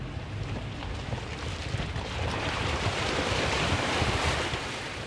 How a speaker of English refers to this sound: This is the Swin River. It comes off the Taylor Range and from the Clint Hills Saddle.